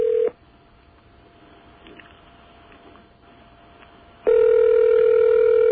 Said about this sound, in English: Okay, we're all tied in here. And it's ringing.